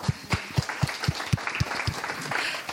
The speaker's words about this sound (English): We do indeed have to move forward. So one round of applause.